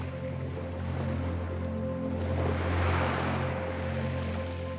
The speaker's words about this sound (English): You can hear the rhythmic sound of the waves lulling you into deeper relaxation.